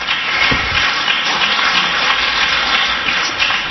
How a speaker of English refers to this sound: And thank you for that applause.